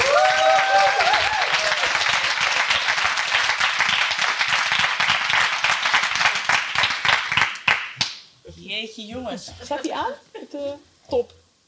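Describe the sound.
Loud, dense applause from a live audience as four guests come on stage from the wings fills the first eight seconds, a steady wash of many hands clapping, then fades out as a single voice begins talking.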